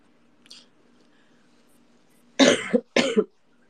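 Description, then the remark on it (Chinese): Two loud, harsh coughs about half a second apart, following a faint click, with a low steady hum in the background. “不好意思，我这边有点咳嗽。”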